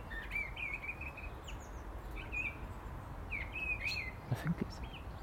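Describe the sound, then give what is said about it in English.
A thrush perched at the top of a tree sings in short, bright whistled phrases, several of them with brief pauses between, over a steady hiss of background noise, with a few soft low thumps near the end. “I think it's a thrush.”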